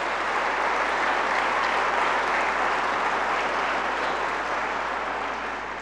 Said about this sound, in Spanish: Para nosotros es un gran honor. Un aplauso, perdón.